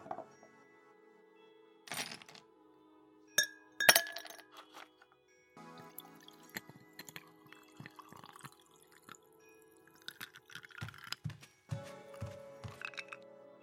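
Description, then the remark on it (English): Liquid trickles and drips into a glass while bright glassy clinks ring out, including a sharp clink near the start and scattered tinkling as a drink is poured, with no one speaking. “If the offer's still there, I will take that drink.”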